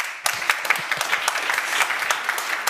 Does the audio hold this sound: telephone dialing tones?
no